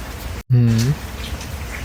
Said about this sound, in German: Wir achten jetzt alle mal einfach mal auf den Sound. So, es regnet. Und so wie es da regnet, müsste es übelst schütten.